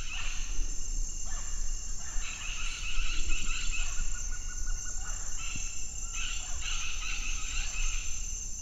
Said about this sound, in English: So do we know what bird that was? I asked Danielle that and she said, no, she didn't know. That's the point, actually. And she said it doesn't matter because with this approach to the soundscape approach, they just don't need to identify the species.